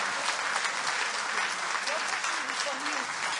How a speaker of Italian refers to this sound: Amen. Alleluia. Quindi vogliamo fare un applauso al Signore. Vogliamo dire grazie Gesù.